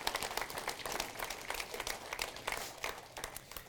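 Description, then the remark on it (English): Steady applause at Bluffton Community, one more round for a man, celebrating the construction process: a dense patter of many hands clapping at once, sustained at an even, moderate level for the whole stretch, with no voices on top. “So let's give him one more round of applause.”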